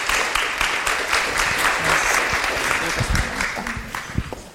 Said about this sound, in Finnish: Kiitos tässä vaiheessa kaikille keskustelijoille. Annetaan heille raikuvat aplodit.